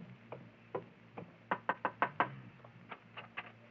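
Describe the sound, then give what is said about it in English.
Knocking on the door of a house: a couple of spaced raps, then a quick burst of five firm knocks, followed by a few lighter, scattered taps, with no voices. “You wait here while I go knock.”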